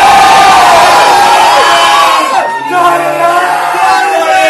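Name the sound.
audience applause and cheering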